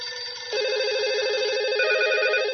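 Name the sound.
telephone ringing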